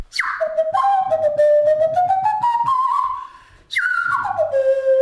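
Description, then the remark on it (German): A nose flute, which redirects the airflow from the nose into the mouth, chirps like a bird in two phrases, each opening with a sharp high swoop that slides down into a wavering, warbling whistle tone, with a brief dip before the second phrase. “Man kann aber auch damit mit zwitschern.”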